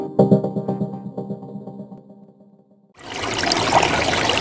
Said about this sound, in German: Der Klang von Wasser wirkt ja so beruhigend.